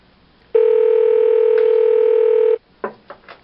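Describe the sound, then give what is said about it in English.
A steady telephone dial tone hums loudly for about two seconds, then cuts off and a few short dialing beeps follow in quick succession. No one speaks. “Let's give him a call back and get faster service.”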